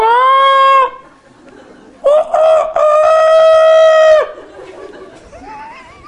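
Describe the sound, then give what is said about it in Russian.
A rooster crows loudly, a short call followed after a pause by a longer drawn-out crow, with faint chicken squawks trailing at the end. “Курица очень полезна, потому что у нее есть пух. Из нее можно делать подушки там и все прочее. И она очень красиво кукарекает.”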